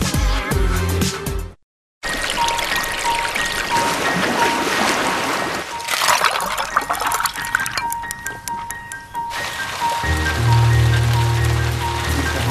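Steady rain patters down with bursts of water splashing in a puddle, loud, after a brief moment of silence near the start; a faint low tone sits underneath toward the end.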